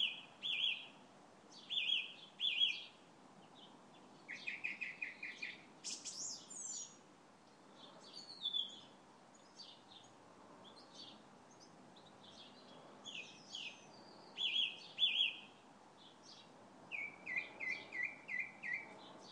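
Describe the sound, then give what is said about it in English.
A bird in a garden, probably a male trying to attract a mate, sings a long, varied song of high chirps, trills and electronic-sounding whistles likened to R2-D2, with quick repeated note bursts and short pauses between phrases. No one speaks over it. “There's a bird in my garden. You can probably hear him.”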